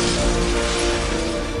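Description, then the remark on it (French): A loud video game helicopter crash and explosion as a helicopter is brought down with a car, a dense roaring burst of noise with a steady low rumble and faint tonal hum, filling the short moment with no talking. “Vous venez de flinguer un hélicoptère avec une voiture.”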